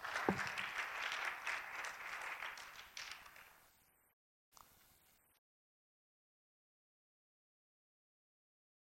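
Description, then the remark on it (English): A standing crowd claps together after a prayer before being seated, a dense burst of applause for about three seconds, then it thins and fades out, followed by a brief scattered patter before silence. “If you clap your hands, you may be seated.”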